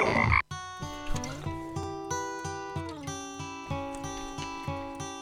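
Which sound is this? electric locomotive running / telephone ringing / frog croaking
frog croaking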